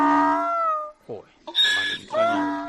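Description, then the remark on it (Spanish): A female donkey, reunited with her owner, cries out in a run of loud, tonal calls: a long wavering note followed by shorter rising and falling cries with brief gaps between them. “una burra que se ha encontrado con su dueño.”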